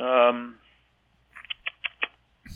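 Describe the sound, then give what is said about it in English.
A man's voice briefly, then a quick run of four or five short, muffled yaps, like a small dog barking, from the man's own dog, followed by quiet. “And there's my dog barking.”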